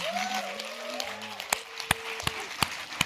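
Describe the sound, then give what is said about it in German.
A crowd in Berlin applauds an actor in a steady, moderate patter, with a few sharp, louder clicks standing out and faint voices or whistles drifting through in the background. “Einige sagen hier auch schon, er befindet sich gerade auf dem Tiefpunkt seiner Karriere und er bekam hier in Berlin auch schon längst nicht mehr so viel Applaus wie früher.”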